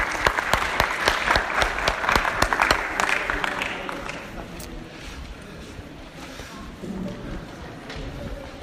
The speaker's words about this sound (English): Okay, now you can give a round of applause to the Reds and Blues.